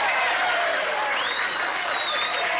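Dense, steady canned applause from a large crowd played from an old recorded tape, with a thin, old-recording sound, clapping continuously at an even level throughout, with a brief high whistle cutting through partway.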